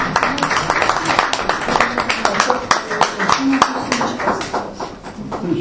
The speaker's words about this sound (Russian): Аплодисменты, друзья. Наши друзья.